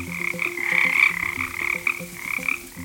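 A dense chorus of frogs croaking in a pond, many overlapping calls pulsing steadily and fairly loudly, with rhythmic low croaks beneath a continuous higher trilling layer and no voices.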